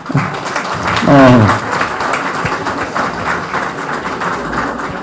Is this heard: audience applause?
yes